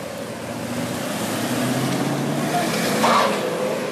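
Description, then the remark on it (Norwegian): A black armored car's engine drones steadily as it carries the perpetrator from Oslo district prison to a custody hearing: a low rumble with a faint whine that swells slightly as it rolls past, with no voices. “Omtrent samtidig ble gjerningsmannen fraktet i en svart pansret bil fra Oslo kretsfengsel og til fengslingsmøte.”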